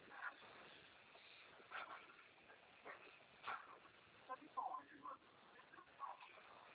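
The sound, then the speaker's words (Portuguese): A dog gives several short, scattered barks and high whimpers, muffled and thin as if over a phone line, with a faint murmur of background noise between the bursts. “Aí, planta aí, ó. Cachorro.”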